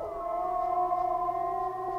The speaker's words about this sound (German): Ich denke, dass es ein Wolf ist. Super, die Antwort ist richtig.